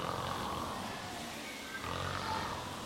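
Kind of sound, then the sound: human body sound, snoring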